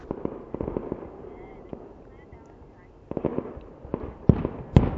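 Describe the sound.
Fireworks crackle and pop in quick irregular bursts, with a lull in the middle before louder, sharper bangs near the end, over a steady background rumble and faint voices.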